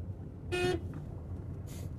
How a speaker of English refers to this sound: But I'm wondering if I can honk him down. I don't want to scare him.